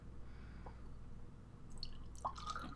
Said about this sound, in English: Okay, let me pour another. One for you.